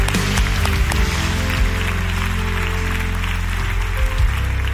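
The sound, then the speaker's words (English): A large audience, asked to clap if expecting God to do great things, claps steadily for several seconds, the dense patter of many hands blending over sustained low instrumental music, with no talking. “Clap your hands if you're expecting it.”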